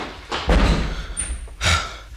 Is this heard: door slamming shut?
yes